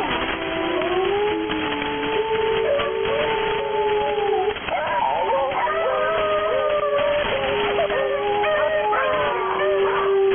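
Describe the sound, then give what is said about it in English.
Several dogs howl together in long, wavering, overlapping tones that rise and fall continuously for about ten seconds, fairly loud and slightly muffled, with no talking. “Where do these dogs come from?”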